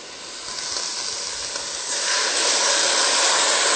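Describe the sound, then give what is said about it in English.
Water pours steadily into a pot holding rutabagas and potatoes as a continuous, rushing hiss. It grows louder and brighter about halfway through, then stays full until the end, with no talking. “Then we're going to add our water.”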